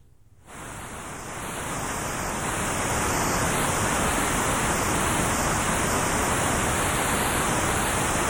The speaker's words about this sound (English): To illustrate, let us use the white noise generator. Here it is again, unmodified.